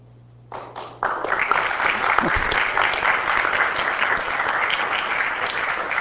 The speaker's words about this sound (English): Okay, so the applause means I should not go on, I guess.